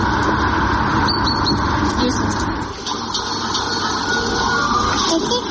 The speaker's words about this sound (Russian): Посмотри, машина едет.